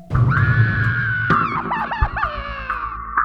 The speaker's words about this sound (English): The shriek stiffened her.